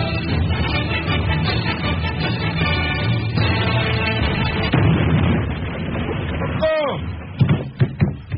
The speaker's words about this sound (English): I warned you about having the woofer balanced, didn't I? The cannon shot evidently blew out the whole system.